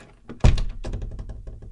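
A nun opens a door after a knock: a solid thunk of the latch releasing, followed by a stretch of rattling, shuffling movement as it swings, with no voices.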